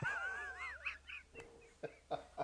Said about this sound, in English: Sorry, my dog is like making a lot of noise today, but I'm not going to edit this. I'm just going to go with it.